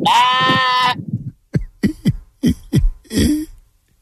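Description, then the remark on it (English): A person imitates a sheep with one loud, wavering bleat held for about a second, followed by several short, choppy vocal bursts. “You could give me the braying, the baying sheep, the buying sheep, wherever how you want to call it.”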